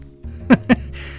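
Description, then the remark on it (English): Two short meows from an overweight, creamsicle-colored cat with black ears, one right after the other, standing out over a low steady background hum. “My stalker turned out to be an overweight creamsicle-colored cat, with black ears and an indifferent disposition, aside from me scaring it.”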